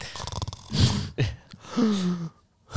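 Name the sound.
imitated snoring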